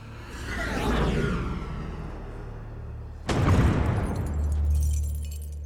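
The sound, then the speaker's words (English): A rising, rushing whoosh builds for a few seconds, then a single loud crashing impact hits, followed by a deep rumbling roar, like an icy comet slamming into the moon's equator. No talking. “So imagine that long, long ago, an icy comet crashed into the moon's equator, the same general area where the Apollo astronauts landed.”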